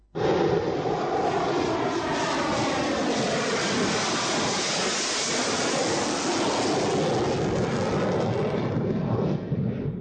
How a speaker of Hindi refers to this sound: अपनी आखिरी गर्जना के साथ ही MiG-21 भारत की वायु शक्ति के इतिहास का एक अध्याय बन गए।